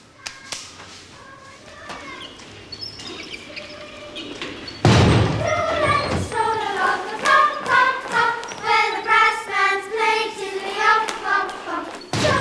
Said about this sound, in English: She carries the tray into the school and loads a trolley which she pushes through the swing doors and past the singing class.